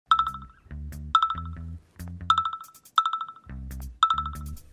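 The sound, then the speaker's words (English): A rapid run of electronic phone notification alert tones, bright chiming pings repeating over and over in quick succession with a low synthetic pulse beneath, fairly loud, no voices. “Oh, look. So many notifications.”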